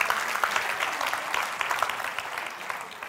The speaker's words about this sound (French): Est-ce qu'on peut applaudir toutes les cuisinières ici ce matin? Ça, c'est un grand talent.